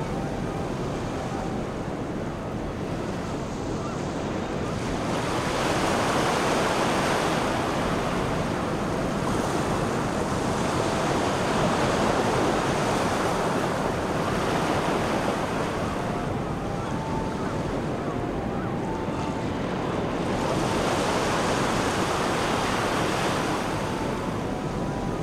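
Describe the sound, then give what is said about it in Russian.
Steady ocean surf rolls in continuously, foaming waves washing and hissing onto the sand in slow repeating surges, fairly loud, with a faint wind rush underneath and no voices. “Шипящая пена впитывается в песок и, не успев исчезнуть, накрывается новой волной. Волна за волной.”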